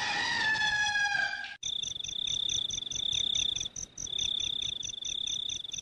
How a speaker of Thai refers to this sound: เวลานั้นดึกมากแล้วพระจันทร์โคจรไปอยู่ทางขอบฟ้าด้านตะวันตกเสียงไก่ขันเป็นครั้งแรกในราตรีดังเจ้ยแจ้วปลิวมาตามสายลมเป็นระยะ